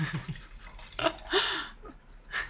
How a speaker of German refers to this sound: Ich schenke dir mal einen Schluck ein. Danke sehr. Gluck, gluck, gluck, gluck, gluck.